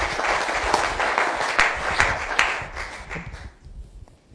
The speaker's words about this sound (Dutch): En applaus, hè.